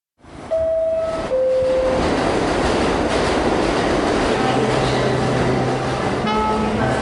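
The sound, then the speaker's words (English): A subway train roars through the 42nd Street subway station under Times Square in New York City, loud, its steady rumble and rattle filling the whole stretch while high motor whines and squealing tones rise and shift above it. “I'm here in the 42nd Street subway stop under Times Square”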